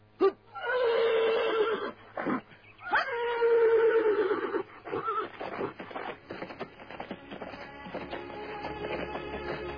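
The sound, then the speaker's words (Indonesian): A horse, about to be ridden by two people inside a city, neighs loudly twice in close succession, each whinny rising sharply then trailing into a quavering, descending tremolo, followed by snorts and faint shuffling noises. “Kuda ini dapat berlari dengan sangat cepat.”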